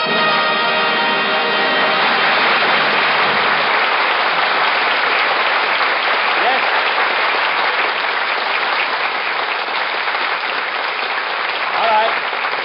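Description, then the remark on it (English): Sustained audience applause, a dense steady wash of many hands clapping at an even loudness for the whole stretch, with a few faint shouts mixed in. “Take the applause sign down.”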